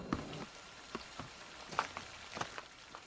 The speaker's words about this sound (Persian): آخه داره بارون میاد.